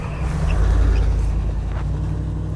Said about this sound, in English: It's less than a mile to NPR West from here, and there's a familiar car slowing down.